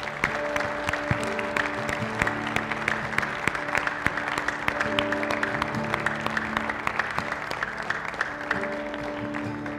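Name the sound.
audience applause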